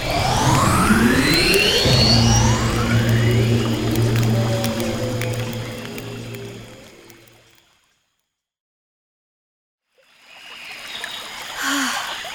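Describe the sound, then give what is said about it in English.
A loud alligator growl, a deep droning rumble with rising, whooshing tones. It fades out to a few seconds of silence before a soft watery rustle returns. “That was close. Alligators are really dangerous.”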